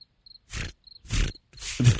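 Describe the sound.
A person imitates a cricket with short, thin, high-pitched chirps, alternating with three loud, raspy, breathy bursts. No actual words are spoken.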